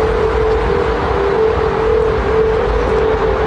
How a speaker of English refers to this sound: Meanwhile, stateside, the Golden Gate Bridge has been overhauled to be more aerodynamic, but here's the problem. The change has made it so when the wind blows through it, the Golden Gate Bridge whistles and hums, and you can hear it for 3 miles.